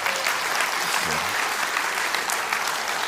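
A crowd claps loudly and steadily for a few seconds, a dense, even wash of many hands with a brief low murmur of voices underneath.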